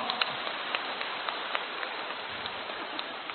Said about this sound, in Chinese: 鼓掌。